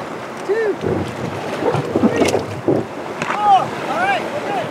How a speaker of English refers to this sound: launch the red rafts into the Lehigh River. … warns them they might get wet as they push the raft into the cold water